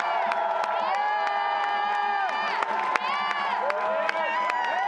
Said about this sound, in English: The crowd outside roared with cheers as the students were escorted out of Wheeler Hall.